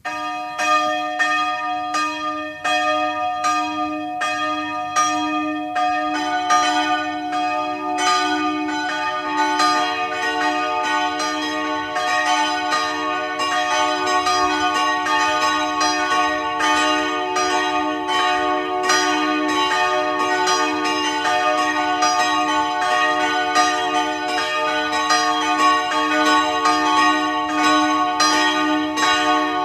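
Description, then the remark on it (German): Several church bells of the branch church in Rohr im Burgenland ring together at 12 noon in a continuous, overlapping peal, loud and steady for the whole half minute, with rich sustained tones and no voices. “Es ist 12 Uhr. Sie hören die Glocken der Filialkirche von Rohr im Burgenland.”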